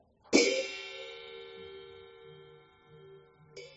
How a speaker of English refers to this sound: So, yeah, the whompers are supposed to sound like a bell. Very sweet and ringing, like that.